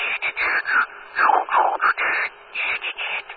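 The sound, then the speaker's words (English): A raspy, hissing radio signal reflected off the aurora comes in choppy bursts. Its buzzy tone slides and wavers in pitch as it keys on and off, with no voices present. “You hear the aurora-like sound change in pitch when you reflect off of it.”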